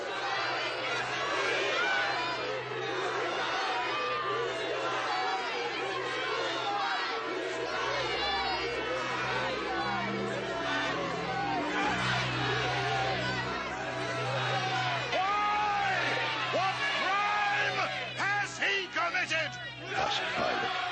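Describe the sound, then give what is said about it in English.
A large crowd before Pilate shouts and clamors continuously, many voices overlapping into a loud, agitated roar with scattered louder yells rising above the din throughout. “But they shouted all the louder.”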